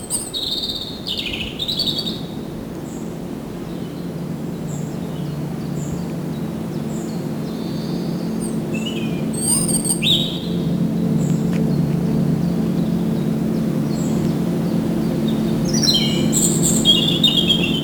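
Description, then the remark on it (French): Several birds chirp and twitter in short bright bursts during a lull in the weather, among dunes wooded with maritime pines and holm oaks, over a steady low rumble of outdoor ambience; no one speaks. “Bénéfice d'une accalmie. Les habitants des lieux gazouille.”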